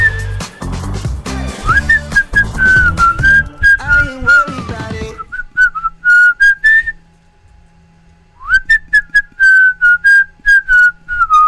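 A clear, bright whistled melody carries a catchy pop tune, first over full band backing with drums, then nearly alone with light percussion, pausing briefly before resuming.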